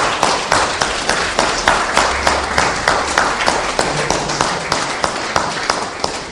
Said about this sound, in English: We could do, couldn't we, what we normally do, which is a round of applause for our deacons.